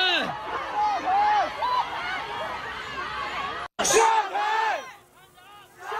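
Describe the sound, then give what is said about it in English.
A large crowd of protesters in Shanghai chants and yells in unison, calling for Xi Jinping to step down, many voices overlapping in loud, repeated rhythmic shouts. A split-second cut interrupts, then the chanting resumes before thinning to scattered, quieter voices. “that is people in Shanghai calling Xi Jinping to step down over and over again. Those chants go on for quite some time.”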